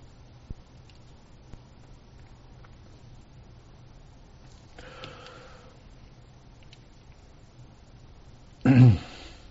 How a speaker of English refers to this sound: Sorry for that pause. I had to clear my throat.